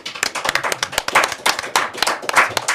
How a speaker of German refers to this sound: Also, grosser Applaus,